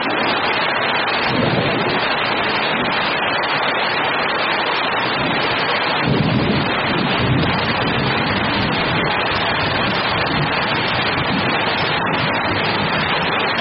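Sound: heavy rain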